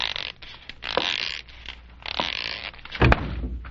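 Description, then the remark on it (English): Someone bumps into an open closet door: a solid thump near the end, preceded by creaking and shuffling rustles. No one speaks. “No wonder you bumped into the door.”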